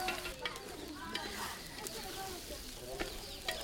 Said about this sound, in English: Today, the women are cooking rice with gombe, which will play an important part at the wedding.